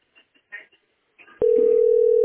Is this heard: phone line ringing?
yes